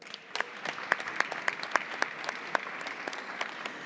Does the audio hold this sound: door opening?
no